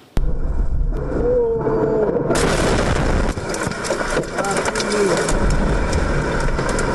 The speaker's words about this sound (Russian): Мощнейший взрыв в Сергиевом Посаде прогремел утром 9 августа. Момент взрыва зафиксировал видеорегистратор одного из автомобилей. В итоге у водителя сотрясение мозга, машина получила сильнейшие повреждения.